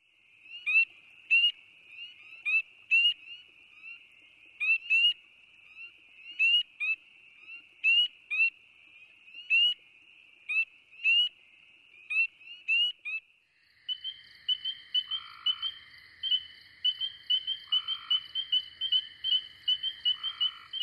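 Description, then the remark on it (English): A chorus of North American spring peeper frogs (Pseudacris crucifer), from the CD with the guide The Frogs and Toads of North America, with many high, shrill peeps repeating in steady overlapping bursts that grow denser and more continuous toward the end. No voices are heard. “Each recording begins with a brief introduction. Spring peeper, Pseudacris crucifer.”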